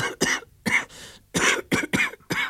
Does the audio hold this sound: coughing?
yes